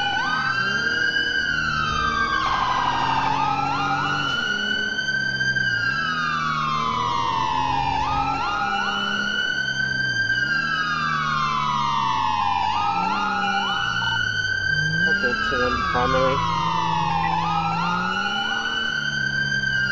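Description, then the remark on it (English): Loud emergency vehicle sirens wail continuously, sweeping up and down in repeating cycles every few seconds, with a low engine rumble underneath and no talking. “It's probably the sirens.”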